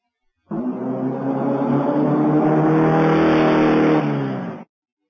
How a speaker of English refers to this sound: This is a car.